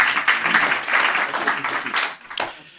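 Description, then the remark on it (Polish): An audience at a Radio Gdańsk event applauds to welcome Professor Grzegorz Berent, director of the Museum of the Second World War: a dense, steady patter of many hands clapping at once, fairly loud throughout and thinning slightly toward the end. “Wielkie brawa.”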